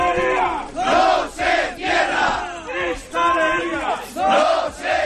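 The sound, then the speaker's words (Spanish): A large crowd shouts a rhythmic protest chant in unison at a workers' protest in Asturias, loud bursts of many voices rising and falling in a steady repeating pattern about once a second. “Arranca un jueves que va a tener este grito en Asturias.”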